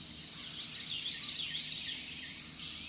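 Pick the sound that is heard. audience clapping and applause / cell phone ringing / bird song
bird song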